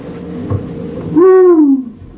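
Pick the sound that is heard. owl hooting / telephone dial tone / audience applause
owl hooting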